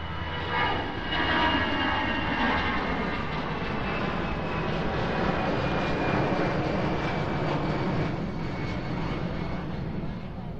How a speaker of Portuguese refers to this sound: A gente já se habituou ao barulho. Eu até gosto de ver os aviões, eles quando vêm ali, vêm aqui junto aqui à rede, e então aí cada avião, que também tem medo.